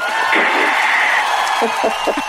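A studio audience on the radio show Bent Notes on Joy 94.9 applauds in a dense, steady burst of clapping with cheers and whoops mixed in, holding loud for about two seconds.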